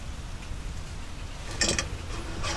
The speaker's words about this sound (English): It's raining. It's not going to stop.